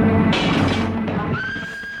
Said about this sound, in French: Sifflement du train dans la nuit.